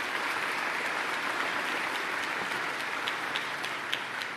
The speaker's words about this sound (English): And let's give our governor a round of applause.